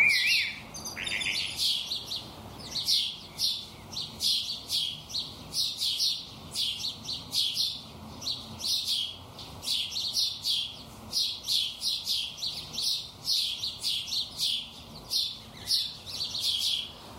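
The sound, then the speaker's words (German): Sparrows chirp continuously in a busy, repetitive chorus of short bright notes, steady throughout, with no one talking. “Aber das Chilpen ist, also auch wenn es in unseren Ohren jetzt eher einförmig klingt, sehr nuancenreich und auch sehr ausdrucksstark.”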